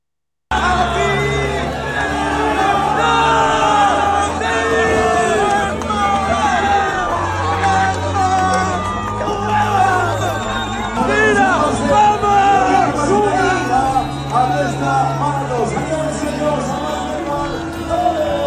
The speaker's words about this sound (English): So the Nike-sponsored athlete posted a triumphant, joyful video on Twitter, capturing the crowd's cheers as he worked down the final stretch of the Barcelona Marathon.